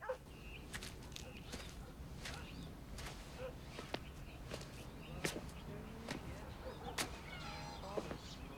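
Slow, unhurried footsteps of a man walking to the front door of his house, a series of soft irregular steps over a low outdoor background hum, with an occasional sharper click near the end and no talking.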